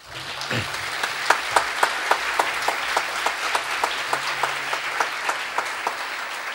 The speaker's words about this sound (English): In this regard, I congratulate Ambassador Ngirwa, and I think he deserves another clap.